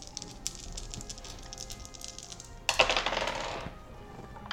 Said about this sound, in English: Let's roll the appropriate dice here.